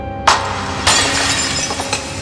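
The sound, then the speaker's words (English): A glass vase holding water and flower stalks shatters loudly on a hard stone floor, a sharp initial crash followed by a second burst of breaking and scattered tinkling shards settling, with no voices. “The vase crashes to the floor.”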